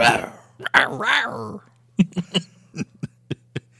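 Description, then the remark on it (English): A person imitates an animal's growl: a rough, raspy vocal rumble lasting over a second, then a string of short, clipped guttural bursts, fairly loud. “I'll growl in your face now.”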